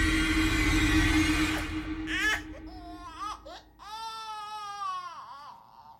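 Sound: baby crying loudly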